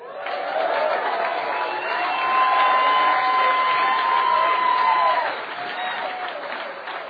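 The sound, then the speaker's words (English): An audience at an Alcoholics Anonymous talk applauds a speaker, clapping steadily for about seven seconds, a dense, sustained patter of many hands with a few whoops and cheers mixed in, swelling slightly in the middle before tapering off. “I deserve the applause.”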